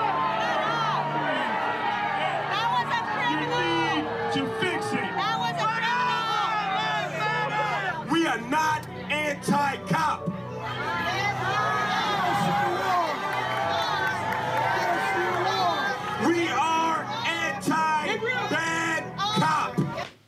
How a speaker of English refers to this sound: So they're jeering him. They're saying, what about black-on-black crime? They boo him when they don't like him, but they cheer him when he says good things about America, and they have a little common ground there.